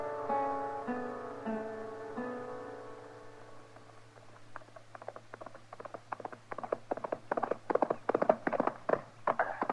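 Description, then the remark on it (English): A few sustained musical chords fade out, then the hooves of a ridden horse clip-clop in a steady trotting rhythm, growing louder as the horse approaches. No one speaks. “good horse, Kitty. You've been on him an hour.”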